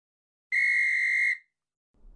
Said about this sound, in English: The match whistle blew to start the game.